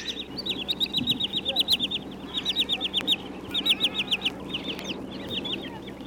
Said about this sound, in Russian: Если в Тригорское из Михайловского идти по над речкой, заливным лугом, из болотцев то и дело выпугиваются крикливые кулики-черныши.